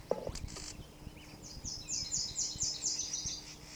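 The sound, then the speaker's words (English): A Solitary Vireo's scolding call: a rapid run of harsh, buzzy, high-pitched notes, about eight in quick succession, over a steady low background hum with no talking. “Scolding a bird, possibly near the nest.”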